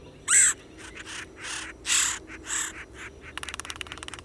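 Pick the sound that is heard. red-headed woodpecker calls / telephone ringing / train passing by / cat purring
red-headed woodpecker calls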